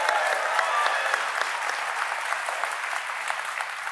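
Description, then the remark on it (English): Audience applause fills the whole stretch, a dense, steady wash of many hands clapping at an even loudness with no pause and no voices breaking through. “You don't have to applaud my questions.”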